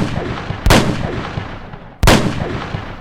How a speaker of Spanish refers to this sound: Richard entró y mató de 3 disparos a Bill Carnes.